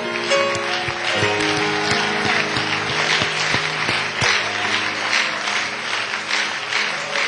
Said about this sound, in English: God, we give you the praise and the honor. Would you give God a hand clap of praise?